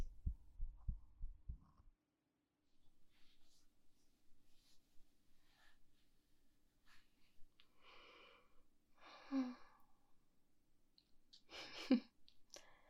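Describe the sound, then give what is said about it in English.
A person's heartbeat, faster than it normally is, thumps low for the first couple of seconds, then gives way to soft rustling and a few breathy, hissing bursts, with no talking. “My heart isn't normally this fast, though. It's normally way slower than this.”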